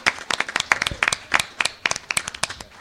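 A crowd applauds the committee after a resolution is passed, with dense, irregular handclaps, sharp bright bursts overlapping at a steady moderate loudness for a few seconds, with no voices heard.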